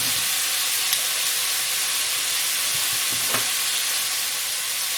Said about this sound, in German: Ja, wie ihr hört, wir sind jetzt im Topf. Jetzt braten wir immer an. Im Schmalz.